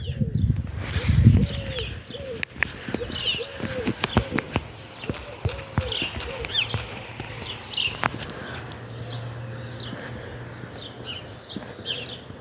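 Wild birds chirp and sing outdoors in the morning, several calls overlapping, with scattered sharp knocking taps early on and a low steady hum in the background.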